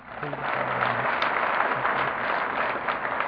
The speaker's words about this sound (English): I'd like to ask you all, everybody in here that is an AA member, would you please clap? Would you please applaud right now?